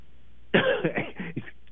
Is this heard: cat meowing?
no